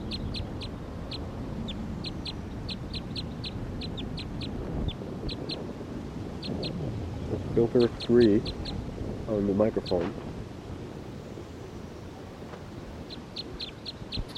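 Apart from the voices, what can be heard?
wild bird calling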